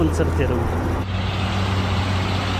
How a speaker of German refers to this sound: Viele von ihnen kommen auf überfüllten Lastwagen an, mit allem, was sie noch besitzen. Kanister, Säcke, Habseligkeiten, gestapelt auf den Dächern der Trucks.